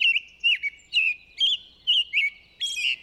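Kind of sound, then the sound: bird, american robin song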